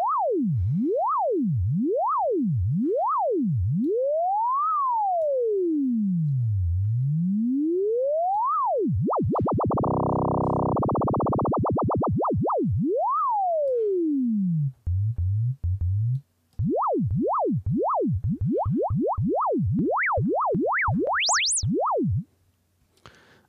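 A lone electronic synth tone sweeps steadily up and down in pitch, its pitch modulated by a sine-wave LFO, over and over. The wobble speeds up into a fast buzzy warble midway, then ends with rapid, climbing swoops.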